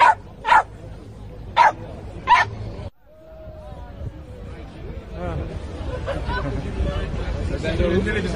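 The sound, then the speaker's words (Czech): A dog at a demonstration against compulsory vaccination on Wenceslas Square barks four times in quick, sharp bursts, then falls quiet as a murmur of crowd chatter and voices swells in the background. “Jsi tady i pejsek, ahoj.”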